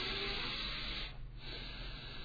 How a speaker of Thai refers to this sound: ปรากฏว่าไอการหายใจถูกต้องเนี่ยมันคือการออกกำลังกายคือฟังลองดิฮะนั่งแล้วก็ นะมันจะเหมือนกับเราดิใช้กล้ามเนื้อท้องนะหายใจเข้าในปอดเราขยาย